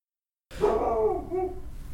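A dog on the porch barks once, then lets out a drawn-out whining howl that trails off, with no one speaking.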